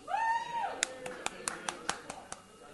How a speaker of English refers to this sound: We got Daredevil Season 2. Oh, yeah, that was pretty good. Oh, some actual clapping. People moved their hands together for that one.